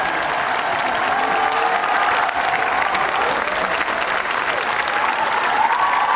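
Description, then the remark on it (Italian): Thunderous applause from a large crowd of young people welcoming the Pope as he climbs onto the stage, a dense, steady roar of clapping that stays loud and unbroken for several seconds, with faint cheering mixed in. “Esatto, vediamo il Papa proprio che sta salendo sul palco, accolto da questo scrosciante applauso.”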